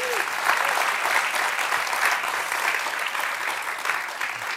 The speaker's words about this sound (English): Let's give Mohsen another round of applause.